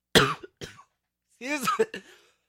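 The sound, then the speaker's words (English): Two quick, harsh coughs from a person recovering from a cold, a short pause, then a longer voiced rasp like a throat being cleared, fading out. “Sure, I'm still having recovering from my cold still, and I still have my cough every now and then.”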